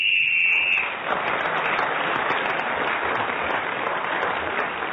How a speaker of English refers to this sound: Well, our final whistle from the MS that tells us that we have no more time.